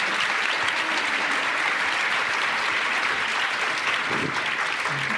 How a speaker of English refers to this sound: Let's give a quick round of applause for an amazing conversation.